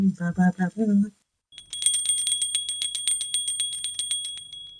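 A short vocal phrase, then after a brief pause a bright bell rings in a rapid, continuous trill of metallic dings, fairly loud, lasting about three seconds.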